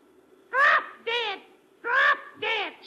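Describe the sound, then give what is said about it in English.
A parrot named Polly, from Perez's pet shop, squawks four times in two quick pairs, loud and harsh, each cry rising then falling, with short pauses between and no other sound around them, in the radio drama Dangerous Assignment. “No, no, it is a parrot, Commissioner.”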